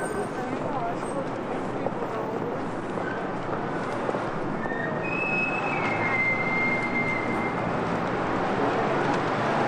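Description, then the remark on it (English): A subway train rumbles steadily and loudly beneath the city throughout, with a dense low roar of rolling wheels and brief high metallic squeals of wheels on the rails partway through. “And underneath it all, you can hear the rumble of the subway.”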